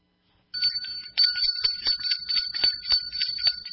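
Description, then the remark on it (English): A hand bell rings rapidly and continuously for several seconds, loud, its bright metallic tone shimmering with quick clapper strikes, before the bell is dropped. No one speaks. “That was extra rings, and I dropped the bell.”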